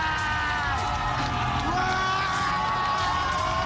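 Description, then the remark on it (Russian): A crowd of young people cheers and whoops with excitement as Lenin statues are toppled, voices overlapping in a loud, continuous roar with occasional higher shouts rising above the din. “Молодежь сопровождает Ленинопад криками восторга.”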